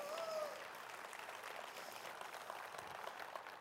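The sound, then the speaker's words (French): An audience applauds during a sermon, applauding their offenses erased by God, a dense, even wash of clapping that holds at a constant level for several seconds with no voices standing out. “Vous devriez applaudir vos offenses qui ont été effacées par Dieu.”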